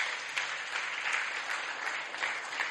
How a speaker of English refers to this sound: Before I forget, give a very big hand clap to the worship team. Amen.